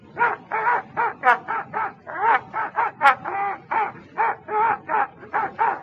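A dog named Toby howls as if singing, letting out a quick run of short, wavering yowls one after another, fairly loud, with no one talking over it.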